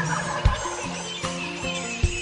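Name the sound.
wild turkey gobbler gobbling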